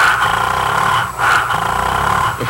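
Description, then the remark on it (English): A voice imitates a revving Suzuki motorcycle engine with a loud, continuous throaty growl that briefly dips around the middle and then surges back, holding steady for a couple of seconds. “Of course. The Suzuki syndrome. Suzuki? Those great lightweight motorcycles.”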